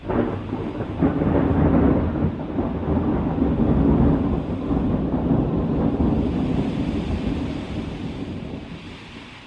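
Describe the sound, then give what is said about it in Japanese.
A long, deep rumble of thunder rolls continuously for several seconds, swelling and then slowly fading, with a steady wash of rain and wind beneath it. No voices are present. “雷とか落ちちゃうのかな？”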